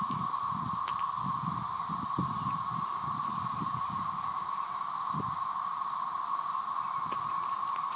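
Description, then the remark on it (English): A dense chorus of cicadas drones loudly and without a break during the 2011 cicada outbreak, a steady high-pitched whirring buzz that holds one pitch throughout, with faint low rustling and thumps underneath. “Wish us luck as we battle the cicadas in the great cicada attack of 2011.”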